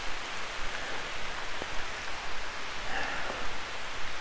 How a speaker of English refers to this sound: Wow, it is pouring. It's pouring down rain.